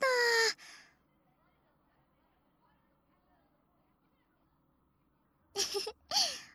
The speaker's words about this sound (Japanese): あんたも。そんな大きいあくびしちゃってさ。眠いなら膝枕してあげよっか。